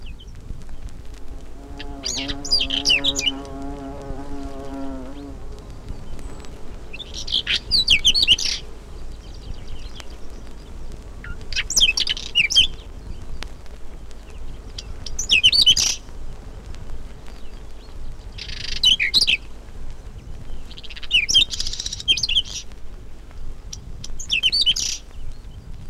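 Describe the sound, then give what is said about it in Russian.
A dark-brown whinchat sings from the top of a thistle as the sun warms, short scratchy phrases, about seven bursts spaced a few seconds apart, clear. A low droning tone sits underneath for the first few seconds. “А на макушке чертополоха запевает темно-бурая птичка, полевой чекан.”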